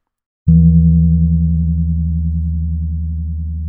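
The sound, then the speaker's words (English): A single strike of the male gong agung (great gong), a very large gong slightly higher-pitched than the female gong agung: a deep, booming tone that rings on steadily with a slow, wavering pulse, fading only slightly over a few seconds. No voices. “Now, the slightly higher-pitched male gong.”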